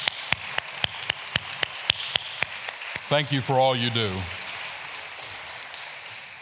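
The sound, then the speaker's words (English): Steady, evenly spaced claps from an audience applauding the standing fathers on Father's Day ring out for about three seconds in a brisk rhythm over a faint background hiss. A man's voice then speaks briefly as the clapping stops. “If I could just take a minute, have all the fathers stand, and let's give them applause for their selfless efforts.”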